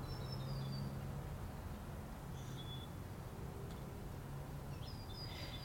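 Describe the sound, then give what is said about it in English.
A few short, high bird chirps come and go outdoors, fairly faint against a steady low rumble of street noise, with no one talking. “Anybody know what kind of bird that is?”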